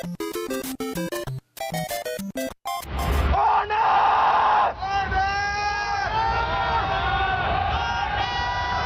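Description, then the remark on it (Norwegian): After a few seconds of choppy electronic tones, a large crowd of thousands at The Gathering in the Vikingskipet hall in Hamar, Norway, erupts, loudly shouting the name "Arne" in unison, a long sustained roar of many voices echoing in a big hall. “Det er en intern spøk som går ut på at hver gang noen roper Arne, så roper resten også Arne.”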